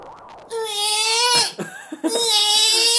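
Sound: crying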